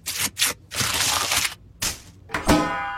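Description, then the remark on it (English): Crackling and crunching as the chocolate shell of a Cadbury Cream Egg is cracked open like an egg, several sharp brittle bursts in quick succession with crinkly rustling between them, ending in one louder snap. “If you eat yours by cracking it open like an egg, that means you're a bit punchy.”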